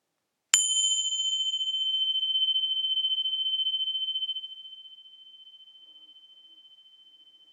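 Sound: meditation bell ringing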